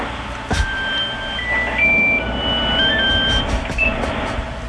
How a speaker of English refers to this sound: just went off again. That was my cell phone.